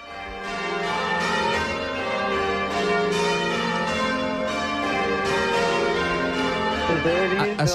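English church bells ring changes in a dense, continuous peal, overlapping bright metallic strikes tumbling in a steady rhythm, loud with a rich ringing wash throughout.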